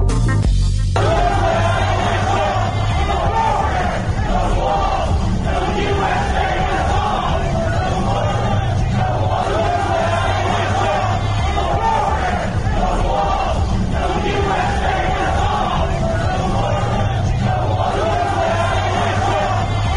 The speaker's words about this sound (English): November the 5th, 2020, those are protesters in Denver last night, shouting repeatedly, no borders, no walls, no USA at all.